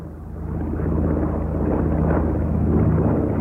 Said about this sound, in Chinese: 啊，有飞机飞过啊？ 系系啊，呢啲系中央军嘅飞机。